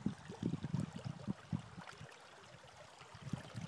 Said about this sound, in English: Yeah, I can really hear the water running on there. This passes under, this is Gage Street, so it goes up around Gate Street and up through to King Street.